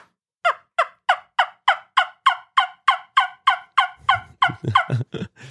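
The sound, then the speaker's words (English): A Crow's Custom Wing Bones wingbone turkey call, built by Jeremy Crow, produces a loud run of about a dozen sharp, evenly spaced yelps, with a low rumbling noise creeping in beneath the final few. “That's Crow's Custom Wing Bones, or Jeremy Crow.”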